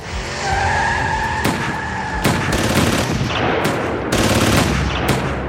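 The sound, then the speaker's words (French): A car chase between a police patrol and a Renault R25 in the streets of Roubaix: tires screech with a sustained high-pitched squeal, then several sharp loud bangs cut through the engine roar, sounding like bursts of gunfire amid the chase. No one speaks. “Une course-poursuite s'engage alors dans les rues de Roubaix.”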